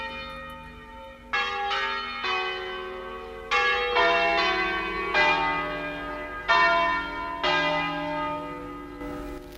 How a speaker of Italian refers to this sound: Allora noi ascoltiamo proprio anche con le campane, che sono importanti. Le campane di Pazzalino, che ancora fondamentali. Oggi, esattamente, che da allora ci tengono compagnia.